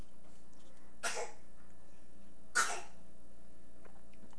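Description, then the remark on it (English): Two short, breathy coughs spaced about a second and a half apart, not loud, against a low steady hum and no talking. “Is that real or is that a fake cough?”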